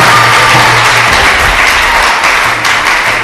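Loud, dense applause from a large crowd fills the space, a steady wash of many hands clapping at once with a low hum underneath, sustained throughout without any talking.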